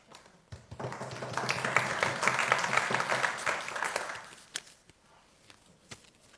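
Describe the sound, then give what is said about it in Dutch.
A burst of applause at a council meeting after vote results electing two members to a steering group are announced: many hands clapping in a dense, steady patter for about four seconds, then thinning out to a few scattered claps and quiet. “Applaus.”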